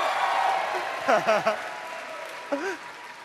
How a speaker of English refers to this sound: Yeah, big round of applause.